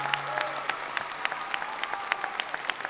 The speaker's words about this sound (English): One more big round of applause for them. Come on, wasn't that brilliant? Brilliant.